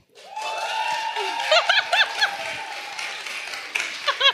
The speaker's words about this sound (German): Und weil wir ein Hörerlebnis sind, bitte ich euch per Jubel abzustimmen, wer ist für Bild 1?